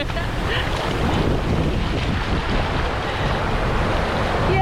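Rough sea water sloshing and surging around people wading knee-deep in the cold sea, smothered in heavy wind buffeting the microphone, a continuous dense roar with no clear breaks.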